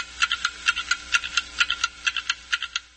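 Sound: clocks ticking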